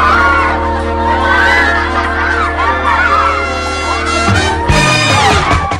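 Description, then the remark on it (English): A coachload of Chinese girls shriek and giggle together, many high-pitched voices overlapping in a loud, continuous burst of excited squeals that swells briefly near the end. “A coachload of Chinese girls shriek and giggle.”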